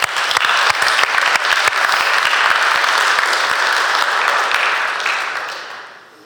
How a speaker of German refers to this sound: vielen Dank, du darfst dich wieder hinsetzen, das ist dein Applaus.